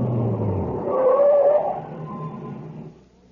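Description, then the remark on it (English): A truck engine rumbles and a brief high whine rises over it as the truck stops by a reactor equipment building, then the noise steadily winds down and cuts off into near silence at the end. “Just stop the truck.”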